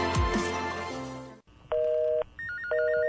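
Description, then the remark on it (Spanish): A bright ringing chime fades out, then telephone keypad dialing tones follow: one steady electronic beep held for about half a second, then another tone with a fast warbling flutter. No voices. “Hoy solo hay uno, 911, el único teléfono en México para reportar cualquier emergencia de protección civil, médica y seguridad.”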